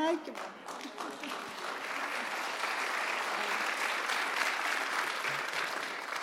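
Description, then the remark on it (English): Scattered applause for Jesus from an audience, a soft, steady patter of many hands clapping without strong rhythm, fairly subdued throughout. A voice speaks briefly at the start. “That's a very weak clap for Jesus.”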